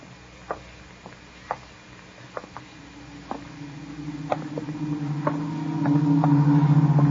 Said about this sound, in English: What's that, a Wellington? No, that's a Beaufort fighter, long-range fighter. Not making any local stops, is he? Oh, very fast ship, so fighter.